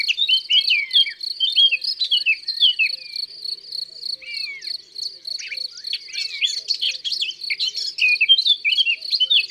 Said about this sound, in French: Il y a une fauvette à tête noire à la lisière du bois.